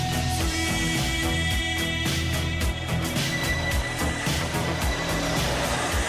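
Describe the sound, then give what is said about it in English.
A vacuum cleaner runs steadily and loudly throughout, its motor giving off a constant whirring roar with a high whine on top and no voices. “You're doing the travel, not the hoovering. Can you turn it off, please?”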